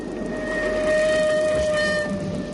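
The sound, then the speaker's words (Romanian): A train bound for Târgoviște rolls steadily along the rails with a continuous rumbling clatter and a sustained metallic whine on top, loud throughout, with no voices. “Că trenul ăsta merge la Târgoviște.”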